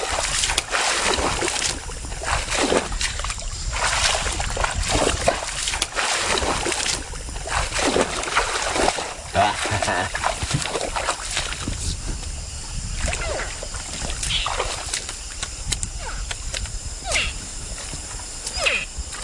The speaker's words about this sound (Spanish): Trata de imitar el sonido del macho en celo o algo así. Y atrae al cocodrilo. El remo produce el mismo sonido que el que produce el cocodrilo al entrar en el agua. Ese sonido, no sé, debe de ser muy sexy para los cocodrilos.